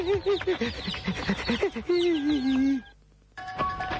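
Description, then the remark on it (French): A rooster that has just been caught by a person clucks loudly, a quick run of short clucks rising into a longer, drawn-out squawk, then a brief silence before more clucking resumes. “J'ai réussi! J'ai le coq!”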